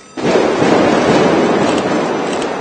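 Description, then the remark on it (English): A sudden loud eruption of gunfire and explosions inside a cafe during a hostage siege, as heavily armed commandos in protective gear enter the building, bursts in after a brief quiet moment, then continues as a dense, crackling roar of bangs with no voices. “Gunfire and explosions were heard inside the cafe as heavily armed commandos wearing protective gear entered the building.”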